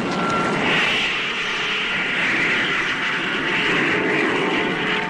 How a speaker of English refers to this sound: All motors fired simultaneously.